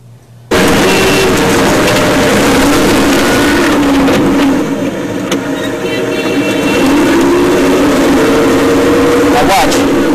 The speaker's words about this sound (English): But this is a Humvee driving in traffic. And every time you see it approach a car and give a little tap, it's actually hitting the back of the car, pushing them out of the way. Let's show how Americans drive in Iraq.